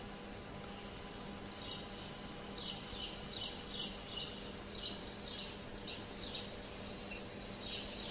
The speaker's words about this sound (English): Two voices wander the path, fly and sparrow. Some small bird sings with full heart this welcome day.